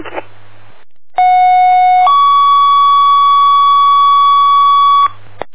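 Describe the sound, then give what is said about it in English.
A loud electronic fire dispatch alert tone, sent out again by control for a West Troll second line assignment, master box 442, on a working building fire at 9th Prospect Street: a steady high tone that shifts to a lower pitch after about a second and holds for roughly three seconds, preceded by a brief burst of radio static. “Tech 4 control, can you tone out again, please?”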